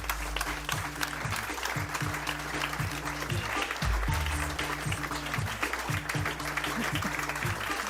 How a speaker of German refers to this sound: Einen großen Applaus für unseren heutigen Gast hier beim Weserstrand, Professor Dr. Antje Boetius.